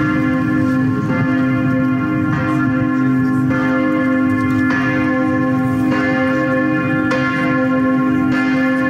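Large bells of the Temple of Saint Sava in Vračar, Belgrade, peal continuously shortly before 4 pm on 18 February, announcing the election of the new Serbian Orthodox patriarch; repeated strikes roughly every second layer into a dense, resonant, loud ringing, with no voices.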